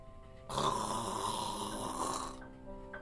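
A single soft, breathy snore lasting about two seconds, close and fairly quiet, with a rough rasp and a faint whistling edge, fading into near silence.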